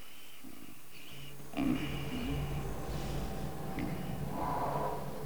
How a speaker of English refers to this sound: his nose begins to twitch and he starts sniffing.